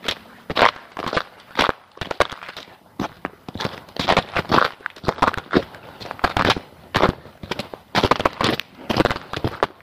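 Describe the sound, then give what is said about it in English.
Footsteps crunch steadily over crunchy ground on a cold day of about 26 degrees, fairly loud, each step a rough, gritty burst in a brisk, even walking rhythm with no voices. “Crunchy bits here.”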